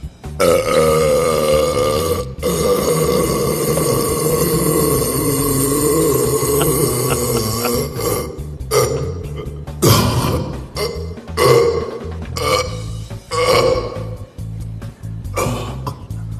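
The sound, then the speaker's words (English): A loud, drawn-out burp from a burping champion rumbles steadily for about eight seconds, then breaks into a series of shorter, choppy belching bursts and gurgles, with no talking. “the world burping champion”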